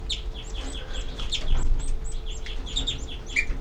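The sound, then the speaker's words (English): A rapid series of sharp, high alarm calls from one numbered, tracked bird repeats throughout, mixed with other birds chirping over a low background rumble; no one speaks. “327, alarm by 33.”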